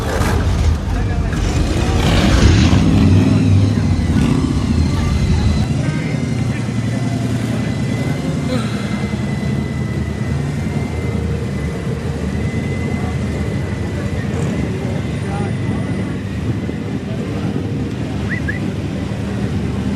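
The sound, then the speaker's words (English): Engines rumble and idle steadily at an outdoor car show, with a louder surge near the start, amid wind buffeting and background voices throughout. “Well, enjoy the car show.”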